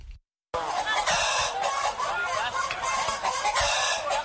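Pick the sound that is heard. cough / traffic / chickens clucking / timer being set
chickens clucking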